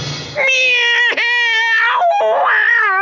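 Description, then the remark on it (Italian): A loud, drawn-out, high-pitched shriek of pain from a voice, as a story character's tail is stamped on with a boot heel, wavering and cat-like, lasting about three seconds with a brief catch in the middle, alone. “Strillò Pistacchiotto.”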